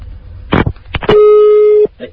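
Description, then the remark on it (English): An Italian telephone line ringing tone on a call dialed to an Italian restaurant: one loud, steady electronic beep lasting under a second, preceded by a few sharp clicks and crackly line noise, with a faint muffled sound after it. “Oh, hang on, that's probably the dining tone. Shh. That's how they ring.”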